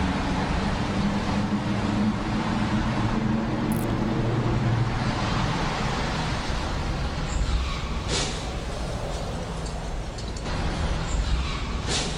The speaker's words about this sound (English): Viper's such a cool car.